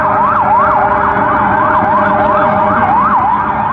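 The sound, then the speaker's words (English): Sirens of many police cars converging on a scene in Manhattan wail loudly and continuously in a fast rising-and-falling yelp, repeating every fraction of a second over a low rumble of street traffic, with no talking. “And then sounds like every police car in Manhattan trying to converge on this scene.”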